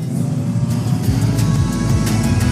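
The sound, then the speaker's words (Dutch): An autocross race car engine roars loudly and steadily during a race, revving with rising and falling pitch as it accelerates, with no voices present. “We rossen weer en we maken ons op voor de laatste rondjes.”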